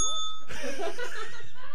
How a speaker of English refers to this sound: hit the bell.